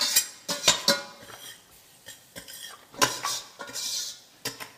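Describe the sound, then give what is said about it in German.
A spoon scrapes and clinks around inside a pot, stirring aromatic food that is kept constantly moving so it never burns, in an uneven rhythm of bright metallic strokes, with a soft sizzle underneath and no talking. “Und hier musst du halt, Löffel gebe ich dir wieder, wirklich vorsichtig sein, dass es halt nie anbrennt. Ne? Okay, ist immer in Bewegung.”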